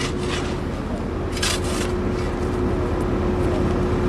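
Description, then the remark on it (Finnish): Steady, loud machinery rumble with a constant engine drone, broken by a couple of harsh scraping bursts, from light rail track construction on Pitäjänmäentie road in front of a shop, where an excavator digs a pit. No one speaks. “Tältä hei kuulostaa, kun tehdään pikaraitio tietä.”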